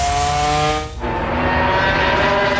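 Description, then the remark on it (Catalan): Martín's Ducati racing motorcycle, in first position in a MotoGP race, screams past on the main straight at full throttle, its high engine whine dropping sharply in pitch as it goes by, then roaring on loudly. No voices. “La Ducati que passa per la recta de meta, la de Martín en primera posició, falten 4 voltes, arriben a la frenada.”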